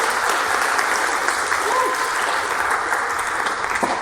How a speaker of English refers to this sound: So can I please have a shout out and a round of applause for my friend